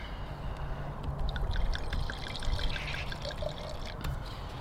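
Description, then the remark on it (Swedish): Livland, a South African Stellenbosch wine, pours steadily into a glass, a continuous gurgling trickle with small bright splashes, moderately loud, lasting several seconds with no talking over it. “Jag häller, du läser, för du sitter med datorn.”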